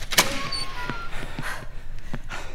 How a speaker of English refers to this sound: Come on. Doors open.